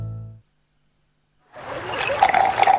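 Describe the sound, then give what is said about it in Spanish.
A capful of Agua del Carmen pours steadily into a glass of sugared water or infusion for over a second, a bright trickling splash that grows slightly fuller, following a brief low tone and a moment of silence. “Solo una tapita en agua azucarada o infusión y listo.”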